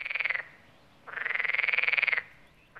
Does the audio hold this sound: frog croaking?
yes